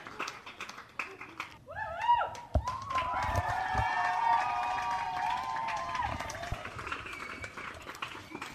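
A crowd at a camp breaks into steady applause for the camp cooks, with high whoops and sustained cheering voices over the clapping, loud and lively throughout, with a few heavier thumps mixed in.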